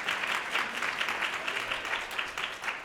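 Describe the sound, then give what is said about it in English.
An audience at a band performance applauds steadily, a dense wash of many hands clapping at once with no pauses, holding an even, fairly loud level throughout. “Would you clap for us on the music?”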